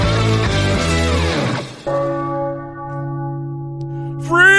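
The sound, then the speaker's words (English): A deep church bell tolls loudly after a brief jumble of ringing tones, its low resonant hum hanging and slowly fading before another strike rings out at the end. “That's a very ominous bell.”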